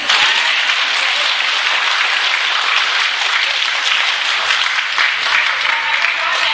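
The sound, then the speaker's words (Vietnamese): Steady, dense applause from a large audience, loud, sustained evenly for several seconds without pause or spoken words. “Đồng ý vỗ tay đi.”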